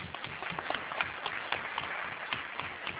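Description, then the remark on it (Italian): An audience applauds steadily for a few seconds for a colleague who has been running the microphone to the audience, a dense, crackling wash of many hands clapping at once, moderately loud and even throughout with no one speaking over it. “Intanto vorrei ringraziare la collega che si occupa di correre a portarvi il microfono, che da questa mattina che sta correndo per le scale, e che gli farei un applauso perché è stata veramente...”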